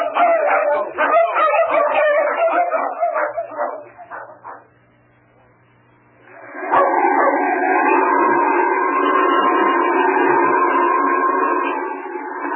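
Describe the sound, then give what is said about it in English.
A team of sled dogs being driven barks and yips in rapid, overlapping bursts, falls briefly quiet, then breaks into a long, sustained chorus of howling that carries loudly to the end. “Something like about 50 times faster than dogs.”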